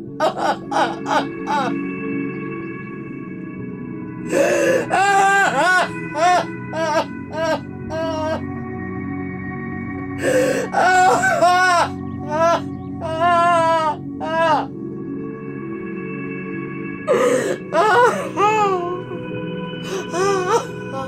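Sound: woman screaming and wailing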